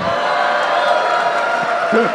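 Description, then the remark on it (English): A Boston crowd cheers and whoops loudly and steadily, a dense wash of many voices lasting the whole moment with no single speaker standing out. “I just wanted to do that just to get that Boston crowd.”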